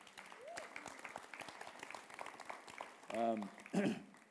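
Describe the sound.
An audience claps steadily for several seconds, a dense patter of many hands, with cheering voices rising loudly near the end.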